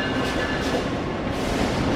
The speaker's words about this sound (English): There's the hum of travelers milling about, the blare of the loudspeaker announcing the next arrival, the clickety-clack of the vintage split-flap departure board, and the pealing bells of a departing train.